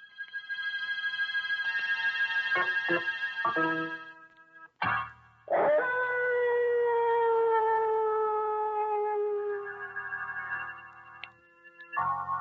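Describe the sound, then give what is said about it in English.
Several dogs howl together in long, wavering cries that slowly slide down in pitch, loud, broken by a couple of short gaps before the howling resumes; the howling dogs are from the second act of The Thirsty Death. “And wait till you hear those howling dogs.”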